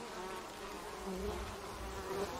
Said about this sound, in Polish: To ciekawe, czy coś mi zrobią. Zobaczcie te pszczoły, ty.